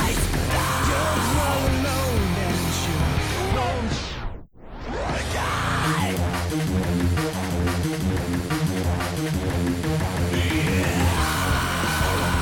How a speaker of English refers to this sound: That background scream there, actually, I ended up keeping all the way to the end, and it made it to the final mix. I ended up liking it so much, I just left it instead of trying to redo it.